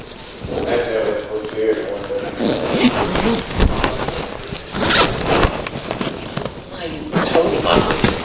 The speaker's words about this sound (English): And Chaplain, I'll be zipping up here and going out with you.